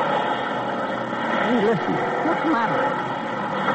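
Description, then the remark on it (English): The struggling engine of an airplane in trouble drones steadily with a rough, uneven hum, while muffled voices murmur briefly partway through. “It sounds like an airplane in trouble.”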